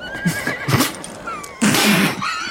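A horse neighs loudly as it stops, a shrill whinny that rises and wavers, then a second longer whinny follows after a brief pause. No voices.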